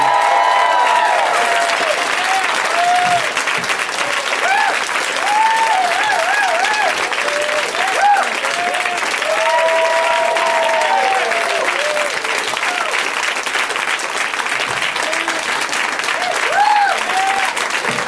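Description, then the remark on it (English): A large audience applauds steadily and loudly for about eighteen seconds to welcome guests, a dense wash of clapping with scattered cheers and whoops rising above it. “I know I'm the one you're applauding for.”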